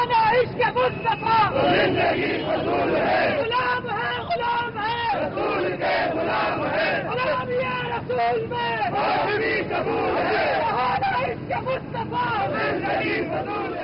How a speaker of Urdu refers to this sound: Karachi press club کے سامنے شہر کے اخبارات، ٹی وی چینلز اور دیگر جریدوں سے تعلق رکھنے والے صحافیوں کی بڑی تعداد شریک تھی. مظاہرین نے امریکہ اور اسلام مخالف فلم کے خلاف نعرے لگائے.